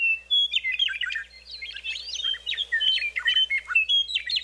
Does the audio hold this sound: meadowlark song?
yes